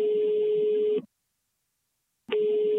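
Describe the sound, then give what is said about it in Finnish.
A telephone ringback tone heard while placing a call to an auction house in Tampere, Finland: a steady, clear electronic tone sounds for about a second, falls silent, then starts again. No one speaks. “Tavoittelen tamperelaisen Anmaris-huutokaupan Jukka Takalaa puhelimeen.”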